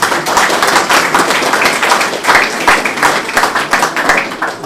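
A crowd applauds a large-format painting made by the group, many hands clapping in a dense, continuous patter at an even loudness throughout, with no voices standing out.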